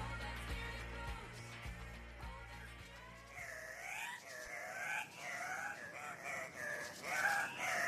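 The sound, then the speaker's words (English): Song of the tunki (Andean cock-of-the-rock), a large passerine bird of the Cotinga family native to Andean cloud forests in South America: a run of loud, harsh, nasal squawks repeated in quick bursts. The calls begin about halfway through, after a low droning musical passage. “The bird song you are hearing is from a bird known locally as the tunki by the Quechua people.”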